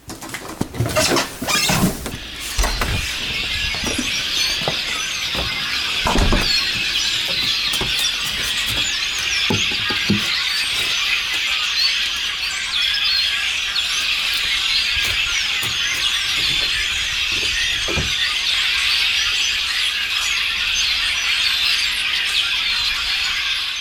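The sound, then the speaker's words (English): A house's front door opens with a few clunks and rattles, then a dense, continuous chorus of many migrating birds chirping and twittering at high pitch in a small stand of trees surrounded by cornfields and soybean fields, steady and loud throughout with no talking. “So it's like a little island of trees, and consequently, when the birds are migrating, they stop here. As you can hear,”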